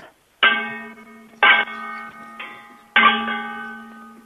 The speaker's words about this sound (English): They sound like a bell. Yeah, well, a little bit. Not. Whoa. Can we sing songs while you do it? Like, sing. I beg your pardon? Like, do you know Twinkle, Twinkle, Little Star? Like, sing that and, like, bang the pans to the beat of the music.